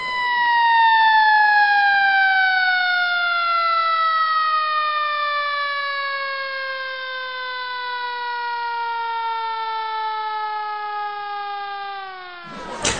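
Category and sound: vehicle, ambulance siren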